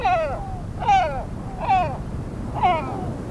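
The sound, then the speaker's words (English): Great black-backed gull calls: four hoarse, harmonic cries, each sliding downward in pitch, repeated at a steady, unhurried pace over a low, constant rumble of background noise. “It's a great black-backed gull, the world's largest gull.”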